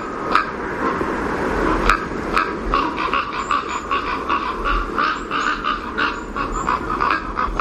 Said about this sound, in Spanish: Cuervos negros sobre la nieve blanca buscando compañía y protección. En el pinar completamente nevado, al atardecer, se reunían 50-60 cuervos.